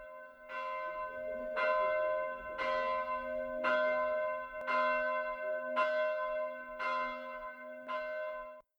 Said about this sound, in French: Après un court sommeil dans une tranquille cellule, un sourd carillon éveille notre ami.